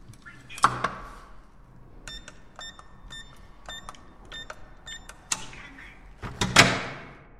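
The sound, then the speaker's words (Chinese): A click, then a run of short electronic beeps like a keypad lock, followed by a latch clack and a louder rush of the door of a home swinging open. “开门吧。”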